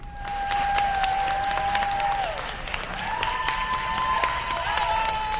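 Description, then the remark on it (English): A large crowd in Los Angeles claps and cheers steadily after learning the Senate confirmed a judge to the Supreme Court, with dense applause filling the scene and a sustained whistle or high shout riding over it throughout. “That is a crowd reacting in Los Angeles after they learned the Senate confirmed Judge Sonia Sotomayor to the Supreme Court.”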